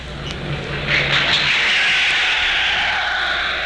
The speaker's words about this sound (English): The applause greets the Führer who has just arrived in the Kohl Opera House to address the Reichstag, which has been called an extraordinary session.